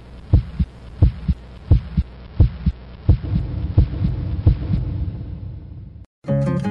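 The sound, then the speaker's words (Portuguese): A heart beating in steady, low thumps, paired lub-dub beats about one per second, over a droning hum that swells midway, then a brief cut to silence before music starts. “Mas ainda mais atrás, há o coração batendo.”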